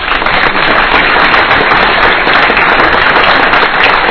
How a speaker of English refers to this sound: I'd like to take the time to announce them, and hopefully we'll get a great round of applause for them.